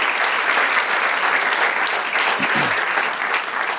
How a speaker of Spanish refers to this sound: Dale el aplauso, dáselo para él, para el Rey. Dale el aplauso al Rey.